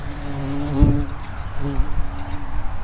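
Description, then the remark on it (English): A large bee buzzes inside a bird-watching blind with a low, droning hum that swells twice as it passes, then fades, over a faint steady background hiss. “A giant bee just flew into the blind. I hope you could hear him. I tried to record his buzzing.”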